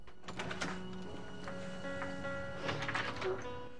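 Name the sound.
door being opened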